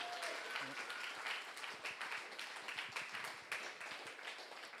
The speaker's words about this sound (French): Moi, ce que j'ai juste envie, c'est qu'on rende gloire à Dieu qui a répondu à leur prière, qu'on puisse applaudir le Seigneur. Il est tellement bon. Gloire à Dieu.